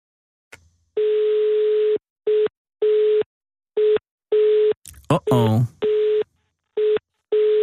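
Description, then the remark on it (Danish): A telephone busy signal repeats its steady, loud tone in regular on-off pulses, about eight beeps in all, with a short burst of a voice speaking briefly over it midway, heard while phoning a bird shelter. “Det er elgammel kode for, at jeg gider ikke at snakke lige nu.”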